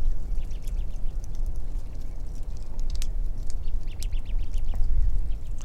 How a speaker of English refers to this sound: I'm standing under some pines full of crossbills. In this next recording, see if you can hear cones being pried open and the birds climbing around parrot-like among the cones. It's a little snap, crackle, and pop.